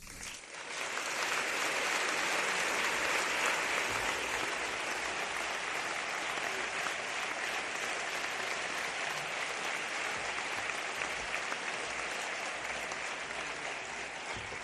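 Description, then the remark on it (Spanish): Sustained audience applause during a pregón (proclamation speech), a dense wash of many hands clapping steadily and loudly for about fourteen seconds, with no voices rising above it. “Aplaudan, por favor.”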